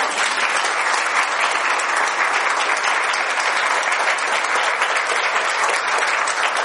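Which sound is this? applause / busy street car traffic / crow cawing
applause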